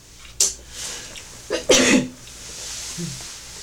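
A brief sneeze, a sharp breathy burst following a quick hiss-like intake, then quiet with no talking.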